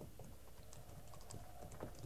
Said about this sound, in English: Shh, wait. Come here. What is it? Horses. Listen.